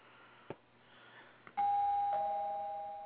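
A bright electronic bell chime signalling an incoming call rings out once at about 1.6 seconds, loud, with a sustained tone that slowly fades, following a couple of soft clicks and quiet background noise.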